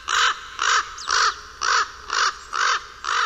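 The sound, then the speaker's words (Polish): A corvid caws repeatedly, seven harsh, raspy calls in a steady rhythm about half a second apart, loud with no other sounds around them. “Po pierwsze, na pierwszy plan wysuwają się ptaki krukowate.”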